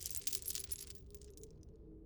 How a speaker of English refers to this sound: I'm getting you out of here. I grabbed a set of keys on the wall.